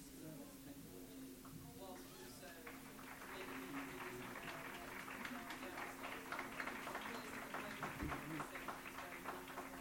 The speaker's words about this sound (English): So the question, I lost a bit of it due to the clapping, but it was about how do we have a nuanced conversation about CCS?